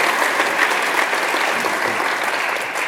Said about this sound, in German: Ein Applaus für ihn erstmal für alles, was er schon getan hat.